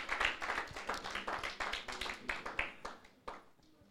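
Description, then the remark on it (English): An audience in a church claps together for the church leadership in a steady patter of overlapping handclaps, fairly soft, thinning out and fading over the last second. “Can we just give them a round of applause, please?”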